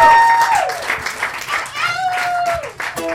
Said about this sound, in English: Everybody, a big round of applause for yourself coming out from Mendocino.